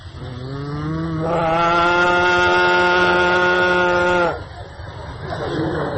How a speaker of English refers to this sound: Sometimes Krishna would call the cows. He would call each cow by its own personal name, and the cows, hearing Krishna speak the name, would respond by mooing very loudly.